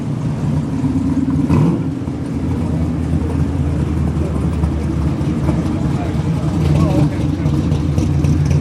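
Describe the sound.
A black car's engine rumbles loudly and steadily, its low drone shifting in pitch as it revs and pulls away from a car cruise in Morro Bay, with indistinct voices in the background.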